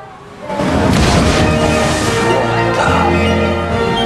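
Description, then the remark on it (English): A family Volvo car smashes through a wooden garden fence, scattering singers and smashing the decor, with a sudden loud burst of splintering and clattering debris that rolls on for several seconds over a low, steady rumble. “Chris stares as the family Volvo crashes through the garden fence, scattering the singers and smashing the decor.”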